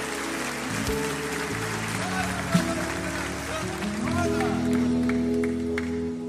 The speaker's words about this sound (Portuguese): Uma salva de palmas.